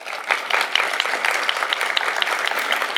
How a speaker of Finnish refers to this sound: Eli oikein raikuvat lämmimmät aplodit Maarit Tastulalle.